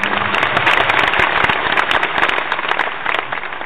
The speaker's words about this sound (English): You, my dear sir, deserve an applause.